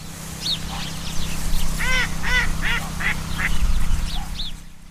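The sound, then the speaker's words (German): Ducks quack repeatedly in a lively outdoor chorus, with other waterbirds calling over a steady low background rumble, in a bird sanctuary at the village of Els Montells in the Ebro Delta on the Catalan coast, about 100 km south of Sitges. No one speaks. “Els Montells, ein Dorf in einem Vogelschutzgebiet mitten im Ebro-Delta, rund 100 Kilometer südlich von Sitges.”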